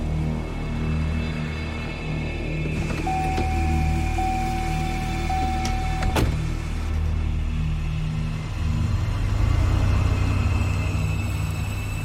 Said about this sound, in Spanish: Whisky, Zulu, el piloto Bravo, ve un auto aproximarse. El avión observó el auto estacionar cerca del puente.